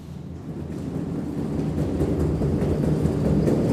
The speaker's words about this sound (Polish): To burza się zaczyna. Burza!